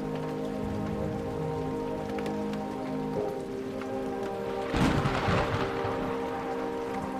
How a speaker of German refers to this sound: Ein unaufhaltbarer Regenguss rauscht auf die Erde hinab. Eine Symphonie des schlechten Wetters übertönt unsere Musik.